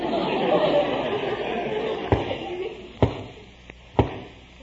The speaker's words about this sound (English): That's what I mean. Sounds like a knock on the door.